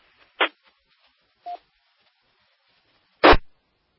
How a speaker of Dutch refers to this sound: En blijf rustig, ik hoor alleen maar ruis.